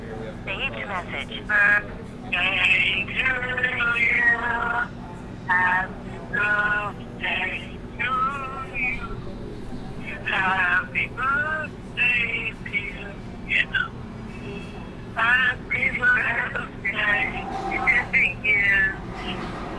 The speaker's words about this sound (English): sing happy birthday on the phone